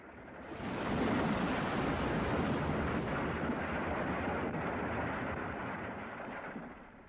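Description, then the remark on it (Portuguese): A deep, continuous rumble of a volcanic eruption swells in after a moment and roars steadily, broad and heavy, before easing slightly toward the end. “De vulcões, de terremotos, de relâmpagos.”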